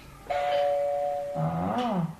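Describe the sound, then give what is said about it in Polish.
An electronic doorbell chimes twice: a clear, steady higher tone holds for about a second, then a lower, richer tone follows with a slight wavering pitch, fairly loud and with no one speaking. “zadzwonisz tutaj do drzwi.”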